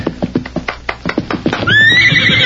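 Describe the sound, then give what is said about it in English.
A loud horse whinny with a shrill, wavering pitch rises after a quick series of thudding hoofbeats, as the rider reins up sharply on sighting a shack, with no voices present. “Better leave the horse here so they won't spot me before I see them.”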